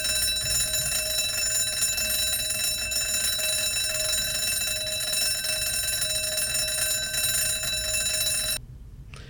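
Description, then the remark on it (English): A loud, continuous metallic bell ringing like an alarm clock, the second alarm sound option on a touch-operated device, with rapid clattering strikes and bright sustained tones that run steadily for several seconds before cutting off abruptly near the end. “She reminds me of a school bell.”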